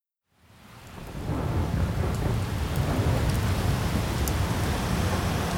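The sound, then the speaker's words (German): Steady heavy rain pours down in cold, windy weather, with a deep, continuous rumble of thunder underneath, swelling in after a brief silence and holding loud throughout, with scattered sharper drops pattering on a surface. “So ein Sauwetter. Kalt, Regen, Wind und das schon seit Tagen.”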